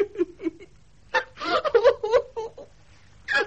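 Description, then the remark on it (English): A woman sobs in uneven, gasping bursts, her breathy cries rising and breaking, then a brief pause before another wail at the end. “Don't cry, my darling.”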